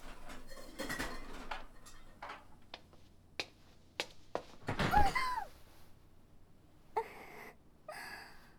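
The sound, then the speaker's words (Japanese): A cooking pot clatters on a stove: several sharp knocks and clanks, a louder metallic scrape around the middle, then two brief ringing clinks, with no talking. “あ、いけません、お鍋が。”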